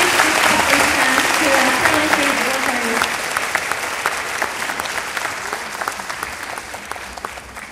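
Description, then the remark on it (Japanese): At the end of a concert by a tango wind orchestra and the US Army Japan Band, a large audience claps steadily. The applause is a dense, sustained burst that thins slightly toward the end, with a voice briefly audible beneath the clapping at the start. “最後にもう一度大きな拍手をお願いいたします。”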